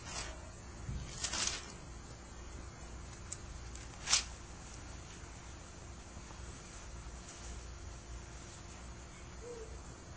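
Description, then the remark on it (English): Soft, continuous rustling of many Bible pages being turned to 2 Corinthians chapter 5, with a couple of brief sharper flips standing out early on, over a steady low background hush and no talking. “So if you want to be turning, I said, I love to hear the Bibles turn.”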